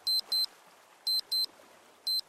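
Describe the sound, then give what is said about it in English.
A small electronic wristwatch alarm beeps in quick pairs, two short high-pitched tones repeated three times with pauses between, thin and clear over faint background hiss, set off by pressing a button on the watch. “Leo's got an alarm on his watch, she explained to Ben.”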